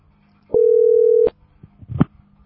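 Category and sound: signal or alarm, telephone dial tone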